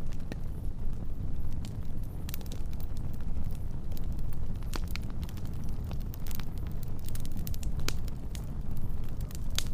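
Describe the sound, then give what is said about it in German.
A wood campfire crackles steadily, with frequent sharp pops and snaps of especially dry twig tips breaking in the fire over a low, continuous rumble of flames. No one speaks. “Ab und zu ertönt ein leises Knallen, wenn eine besonders trockene Astspitze im Feuer zerbricht.”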